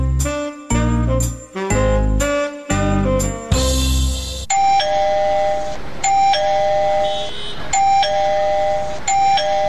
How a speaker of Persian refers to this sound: زنه چی شده که باز دروازه را زنگ زده؟